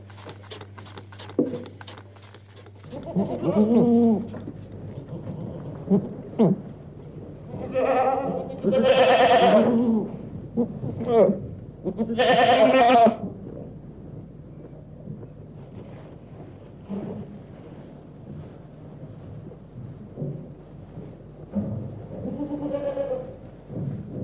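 Alpine goats bleat outdoors in a string of loud, wavering calls, several overlapping around the middle, with a steady low wind rumble underneath and no voices.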